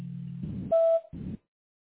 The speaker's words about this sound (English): Please leave your message after the beep and I'll get back with you as soon as I can.